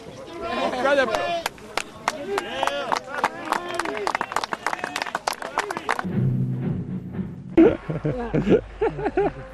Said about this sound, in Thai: เกือบจะทันทีที่เท้าสัมผัสพื้นท่ามกลางเสียงปรบมือของผู้คนที่เอาใจช่วยในภารกิจครั้งนี้ครับ